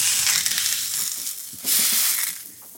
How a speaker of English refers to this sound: So when I reheat corn tortillas, I like to give it a little splash of water before it goes on a nice hot surface, because that kind of helps it steam and warm evenly. Steam and a sear at the same time.